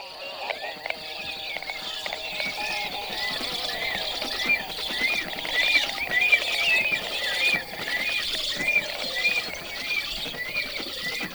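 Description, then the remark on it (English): A pair of black storks call back and forth in a lively, continuous exchange of high whistles and husky, raspy notes, mixed with quick rattling clatter, steady in loudness throughout. “They are having a lively and noisy conversation, exchanging whistles with husky songs.”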